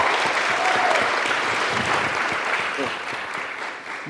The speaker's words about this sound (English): Let's clap it up again for the fellas.